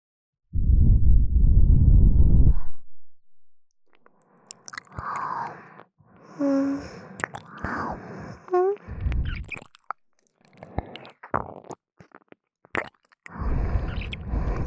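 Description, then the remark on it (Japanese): Wet mouth sounds in an intimate ASMR style of licking the other ear: licking, smacking and soft squishy clicks come in irregular bursts near the ear, with low rumbling thuds at the start and end. “反対のお耳、こっちに向けたりして。こっちも舐めてほしいの？”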